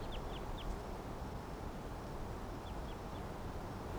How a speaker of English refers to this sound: Wild birds in the background.